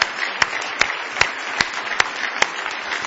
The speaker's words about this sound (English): Oh, somebody say praise the Lord. Somebody say praise the Lord. I give the Lord another hand clap of praise if you love him this morning.